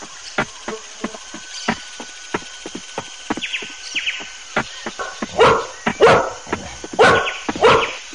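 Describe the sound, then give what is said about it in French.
A large dog barks loudly, four sharp barks in the last few seconds, after a stretch of light, irregular tapping and clicking footfalls. “le chien est grand ou petit? Le chien est grand.”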